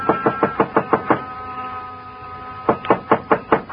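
Two bursts of rapid knocking on a wooden door, about seven sharp raps each, separated by a pause of roughly a second and a half; fairly loud, with no voices. Knocking at the dark small frame building that serves as Joe Picatello's office and living quarters, on a side street near the park.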